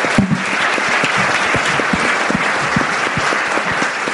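An audience breaks into steady applause, dense clapping sustained at an even, fairly loud level for several seconds with no one speaking over it.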